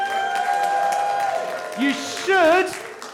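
An audience claps steadily, with a couple of rising whoops and cheers breaking out over the applause toward the end.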